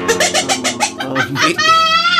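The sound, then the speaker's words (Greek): A person imitates a duck with their mouth: a rapid run of nasal, quacking bursts, then a longer drawn-out squawk, loud with no other talking. “Α την πάπια. Κάνε κάτι άλλο με το στόμα σου.”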